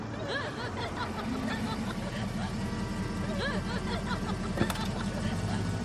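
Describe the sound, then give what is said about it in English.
A car engine rumbles steadily as it pulls up, a low continuous hum throughout, with faint voices and a brief chuckle over it and a short sharp click near the end. “Your car, sir.”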